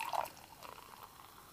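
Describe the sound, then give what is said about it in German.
Sekt (German sparkling wine) is poured into a glass: a short splashy pour at the start, then a soft, steady fizzing that carries on quietly. There is no talking. “Und bevor wir jetzt zur Gewinnerin der unangenehmsten Situation kommen, muss ich mir nochmal Sekt einschenken, weil jetzt wird es nochmal richtig unangenehm.”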